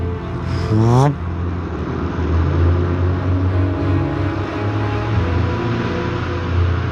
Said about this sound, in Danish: De engelske propelfly letter i ly af natten.